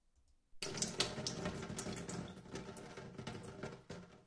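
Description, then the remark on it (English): Water pours steadily from a big glass into a smaller glass, a fairly loud splashing stream that starts abruptly after a brief silence and runs for several seconds without any talking. “the joke is one glass is bigger than the other, and he's pouring a big glass into the small glass.”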